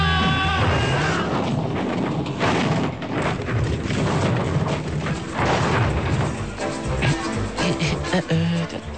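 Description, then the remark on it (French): A loud, sustained crash as a ram car with a bull bar smashes into a brick wall, with heavy booming impacts and crumbling debris over a droning, revving engine tone. “Alors défoncez-moi cette porte, accélérée.”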